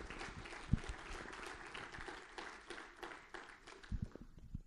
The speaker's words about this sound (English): Can you give the Lord a clap of praise in this house?